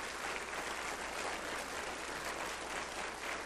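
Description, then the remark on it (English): A crowd claps steadily for a few seconds, a dense, continuous patter of many hands at a fairly low level, with no voices rising above it: applause for the church members who are present. “And so I'd like to give them a round of applause for the members that are here.”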